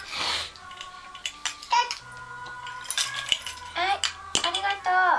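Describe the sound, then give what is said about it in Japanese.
Scattered clinks and taps of toy dishes, two toy plates and a small toy knife as a child cuts a pretend cake to put on a plate for their mother, with brief soft vocal sounds from the child in between. “お皿に乗せてママにちょうだい。じゃ、うんうんうん、切った。”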